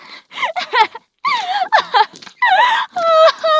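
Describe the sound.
A young male voice lets out a series of sharp, pained cries and strained wails in short bursts, some breaking into drawn-out, high-pitched yelps, fairly loud with brief gaps between them.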